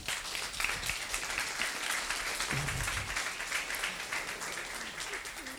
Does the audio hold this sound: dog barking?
no